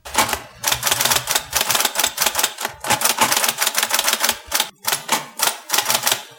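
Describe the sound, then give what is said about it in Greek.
Rapid, continuous typing on a typewriter in a former Stasi office, a steady clatter of key strikes in quick bursts with brief pauses, and no voices. “Βλέπω την ίδια ακριβώς γραφομηχανή, το ίδιο τηλεφωνικό κέντρο, τα ίδια γραφεία που είχα δει και στην ταινία.”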